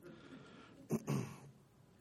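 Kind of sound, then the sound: human body sound, coughing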